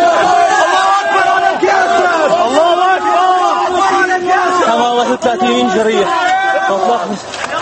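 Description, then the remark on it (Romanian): Many voices scream and yell at once in a loud, chaotic crowd amid protest violence, with thick smoke and tanks approaching, high wavering cries overlapping continuously and a sharp burst of noise partway through. “Imaginile arată fum gros, oameni țipând și tancuri apropiindu-se.”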